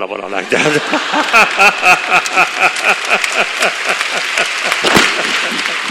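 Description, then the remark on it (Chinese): An audience at a Dalai Lama talk claps steadily throughout, a dense wash of applause, while a man's voice talks over it in short phrases. “尊者时而严肃时而幽默的演说赢得了在场观众的阵阵掌声。”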